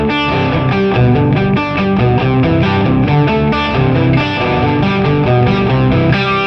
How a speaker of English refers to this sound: So it gives me kind of a 12-string sound with the distortion. Right, but very subtle.